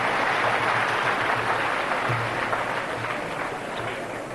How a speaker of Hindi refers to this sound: आप लोग तालियां तो बड़े प्रेम से बजाते, मुझे मजा भी आता है